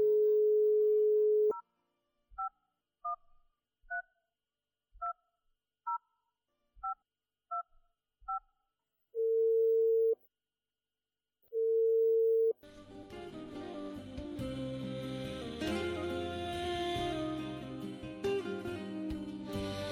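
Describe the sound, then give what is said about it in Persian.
Girls pick up a telephone receiver and dial a number read out by their mother: a dial tone gives way to a quick run of about eight keypad beeps, followed by two long, steady ringing tones on the line, then a burst of busy, music-like sound takes over. “گوشک تلفن گرفتن و شماره ای را که مادر میخواند با او تلفن زدند”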